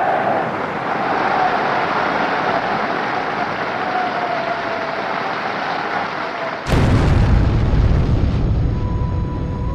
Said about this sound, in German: Die Explosion verwüstet den Saal. 7 Parteimitglieder und eine Kellnerin sterben. 63 Personen werden verletzt, davon 15 schwer. Das Geräusch ist selbst für die Radiohörer, die der Berichterstattung über den Äther folgen, deutlich zu vernehmen.